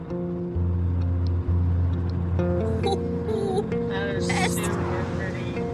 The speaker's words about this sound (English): Then, the car travels down a road against a pink sunset.